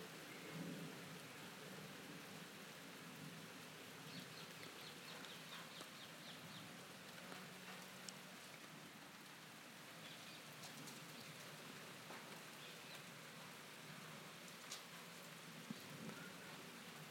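A steady hiss of rain from thundery showers falls throughout, with faint patters on surfaces and a soft, far-off rumble of thunder low in the background; no voices are present.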